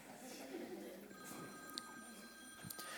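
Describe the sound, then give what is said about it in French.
A mobile phone rings faintly, a steady electronic ringtone starting about a second in and holding over a low murmur of voices. “Non, laissez tomber, je crois que ça doit être mon téléphone.”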